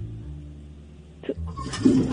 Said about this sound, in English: Forget the money thing. We're calling out when we think the flush is going to go off.